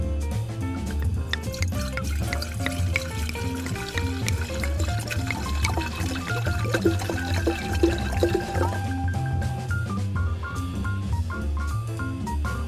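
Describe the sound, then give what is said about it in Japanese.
Sake from Nada, Japan, is poured steadily into cups, a continuous gurgling trickle whose pitch rises as each vessel fills, with no talking over it. “灘のお酒の特徴、宮水と良質な晩秋米、そして丹波当時の心意気を感じるお酒です。お嬢さん、私たちもいただいていいでしょうか？”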